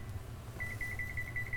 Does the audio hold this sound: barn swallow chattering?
no